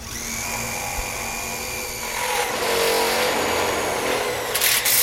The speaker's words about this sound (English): drills in parts of the wall, he guides her on how to keep the beam steady. She's fresh in, a month in, and this metal is kind of tricky to go through.